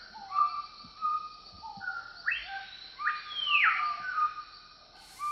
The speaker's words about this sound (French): Le lutin farceur avait un peu peur, mais il n'entendait que le bruit des oiseaux et des petits animaux.